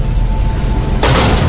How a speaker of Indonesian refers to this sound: Astaga. Pintu kelas itu tiba-tiba terbanting sangat keras.